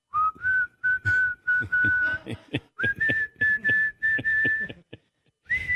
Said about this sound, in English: I just heard that … walking up to the podium was whistling.